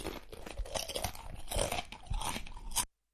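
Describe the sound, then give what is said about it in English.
Loud crunchy chewing, a steady run of crisp bites and grinding crunches lasting a few seconds before stopping abruptly, with no voices. “Sorry, I need to chew something.”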